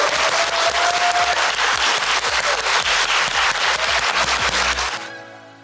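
An audience applauds for about five seconds: a dense, steady wash of many hands clapping, fairly loud, with no voices. Then it cuts off and fades quickly.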